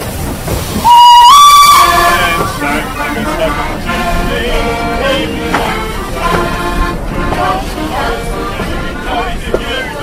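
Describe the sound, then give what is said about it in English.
A locomotive whistle sounds one loud blast near the start. It is followed by the steady rumbling and clanking of a Santa train, with locomotives at the front, pulling away and gathering motion. “You've got Murrayshire and Brereac, so you've got good motive power up at the front.”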